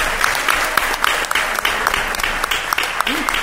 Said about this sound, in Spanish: ¡Un aplauso, hombre, por favor!